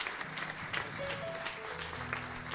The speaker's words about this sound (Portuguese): Você pode aplaudir forte ao Senhor Jesus? Aleluia! Glória a Deus! Glória a Deus!